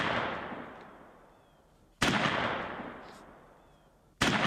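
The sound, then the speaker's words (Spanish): Three loud shotgun blasts fired into the air one after another, roughly two seconds apart, simulating the death of the 'vaquilla' (heifer) at a village festival; each has a sharp crack followed by a long rolling echo that fades out. No voices. “Luego vuelven al lugar de salida y allí se simula su muerte con tres tiros de escopeta al aire”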